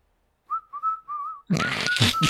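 A phone's power-on startup sound: three short, wavering whistle-like notes, then a sudden loud, noisy burst with a steady high tone and rhythmic low thumps underneath.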